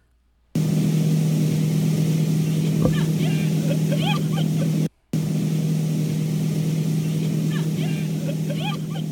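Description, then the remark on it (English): A motorboat engine drones loud and steady, with a constant low hum and water rush, as it tows a water skier from the Japanese water skiing team. Faint voices of people on the boat call out over it, and the sound cuts out briefly midway. “A member of the Japanese water skiing team was caught on camera in an unfortunate collision between a jumping fish and his groin.”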